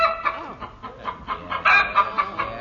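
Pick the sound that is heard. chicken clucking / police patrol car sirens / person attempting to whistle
chicken clucking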